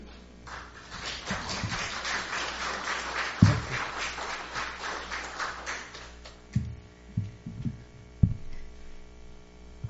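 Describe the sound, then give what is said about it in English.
An audience breaks into spontaneous applause at the end of a Sunday service lecture, a dense wash of clapping that holds steady for several seconds before dying away, leaving a low hum and a few scattered dull thumps. “This spontaneous applause shows how wonderful the lecture was.”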